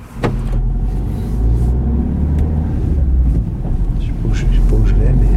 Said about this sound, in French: on est toujours dans votre voiture, on vient de quitter le TGI de Nanterre.